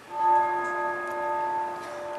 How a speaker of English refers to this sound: And the reason he began to write on Christmas Day of 1863 was because he was looking to pull himself out of the despair, and because he heard the inspiration of some church bells ringing.